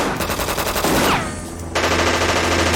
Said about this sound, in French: Et à peine est-ce que Donna et Nicole sont-elles arrivées que Donna, sur le tarmac, se fait kidnapper. Fusillade sur la piste, la tension est à son comble.